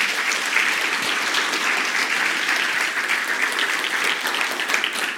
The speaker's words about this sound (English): Thank you so much for being willing to share with us. I appreciate it. Why don't you guys give a round of applause?